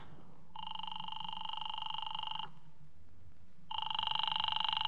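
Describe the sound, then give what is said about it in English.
A telephone rings in two long, buzzy trilling bursts separated by a short pause, fairly loud, with no talking over it. “do you mind if I use your phone? No, go ahead. I better call Helen.”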